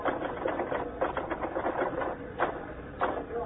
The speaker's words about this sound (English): You finished typing that banquet story yet? Uh-uh. Finish it, huh?